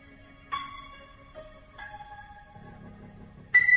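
Quiet rock music plays on its own, with slow, sustained guitar-like notes ringing out one after another and a soft low rumble underneath, with a brighter note swelling in at the end.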